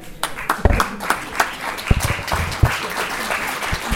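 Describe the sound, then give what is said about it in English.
A crowd applauds steadily, many hands clapping in a dense, continuous patter with a few sharper claps standing out, moderately loud throughout. “With a big round of applause.”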